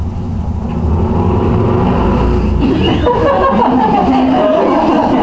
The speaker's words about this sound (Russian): Мотоцикл.